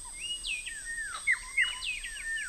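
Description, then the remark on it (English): A male and a female bird sing an antiphonal duet as a territorial display, each singing a different song in clear whistled phrases sliding up and down in quick back-and-forth succession. The singing is fairly loud over a faint steady hiss, with no talking. “It's an antiphonal duet where the male and female are singing different songs.”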